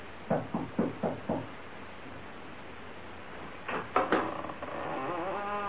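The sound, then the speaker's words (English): Five quick, evenly spaced knocks on the door of an old house on Bald Hill, distinct, followed by a pause and then a few louder, sharper raps and a rising tonal sound afterward. “You knock, Skeezix.”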